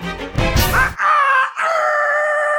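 Roosters crowing loudly, one harsh burst followed by two long, strained, harmonic calls, with no talking.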